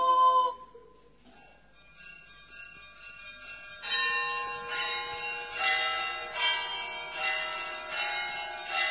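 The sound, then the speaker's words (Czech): Church bells ring with no voices present: a couple of bell tones sound and fade, then a full peal of several overlapping bells swells in, loud, clanging and continuous. “Čuj nas, sveti oče, koji odjekuješ od zvona i klepala koji traže spasa.”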